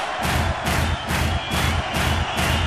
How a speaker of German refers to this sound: Mit dem rechten Fuß auf den Boden stampfen!